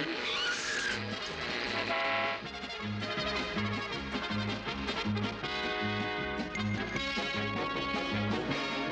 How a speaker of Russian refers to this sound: выскакивает на автотрассу навстречу несущимся автомобилям